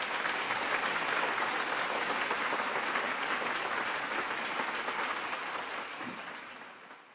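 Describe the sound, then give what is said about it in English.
Steady crowd applause for working dogs and their trainers entering an arena, a dense wash of many hands clapping at once, holding strong before gradually thinning and fading toward the end. No voices stand out. “They're a proud lot and truly deserve your applause.”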